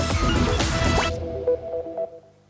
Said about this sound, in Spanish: Esa gotera que tanto te molesta desperdicia cientos de litros de agua. Revisá las canillas, flotantes y cañerías para evitar pérdidas.